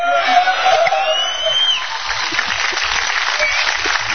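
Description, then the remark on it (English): Sustained audience applause, a dense, steady wash of clapping that stays loud for the full few seconds, with a faint murmur of crowd voices mixed in. “Yeah, well, some of you guys clapping are going to get dead before Christmas.”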